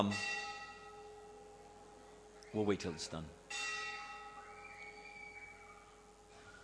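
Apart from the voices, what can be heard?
bell tolling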